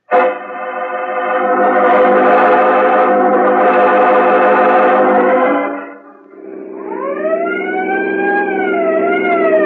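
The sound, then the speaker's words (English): A loud police car siren blares outside a town, holding a steady piercing tone for several seconds before dipping briefly and shifting into a rising-and-falling wail. No voices are heard. “We're outside the town, Peters. You can drop the siren.”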